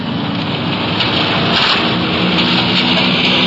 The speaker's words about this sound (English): a strong wind is whipping the trees along the street. It could be we're in for some rain before long.